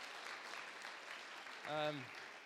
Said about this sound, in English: And you want to give them one more, just a round of applause.